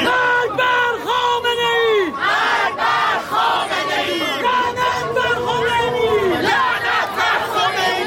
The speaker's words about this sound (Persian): هزاران تن در حالی که شعار می‌دادند و نمادهایی از مهسا و دیگر جان باختگان اعتراضات را در دست یا بر سر داشتند، از میدان باستیل تا شهرداری مرکزی پاریس راهپیمایی کردند.